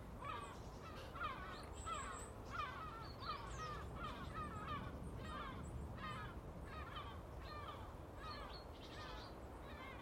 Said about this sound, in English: Seagulls heading probably away to some landfill.